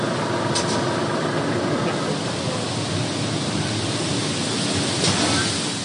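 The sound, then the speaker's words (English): A steady, dense rushing roar of grain pouring from a dump truck with its bed raised into a grating in the ground at a silo dumping area, raising huge clouds of dust; loud, with a low engine rumble underneath and no voices. “The truck drives into a dumping area, and the driver opens the back and raises the bed.”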